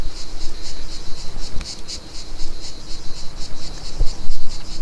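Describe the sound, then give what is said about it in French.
A dense, continuous chorus of cicadas buzzes steadily in a high, shrill drone, pulsing slightly, with faint low rumble beneath and no voices, heard while walking along a small footpath. “Mais avant d'arriver sous terre, un peu de marche par un petit sentier. On entend même les cigales.”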